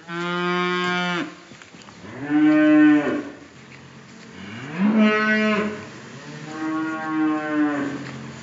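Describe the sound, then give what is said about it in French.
Cows on a farm in the Normandy countryside, France, moo four times in a row, long drawn-out lowing calls spaced a second or so apart, loud, with no talking over them. “Plusieurs tracteurs sont entreposés, les veaux sont dans la stabulation, d'autres vaches ruminent dans le champ d'à côté.”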